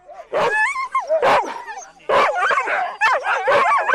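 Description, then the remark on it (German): A pack of sled dogs, eager to set off pulling a sled, barks and yips excitedly, high-pitched cries overlapping in dense, loud bursts with only brief pauses between them. “So, die Hunde wollen los.”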